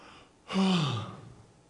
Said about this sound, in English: I yawned.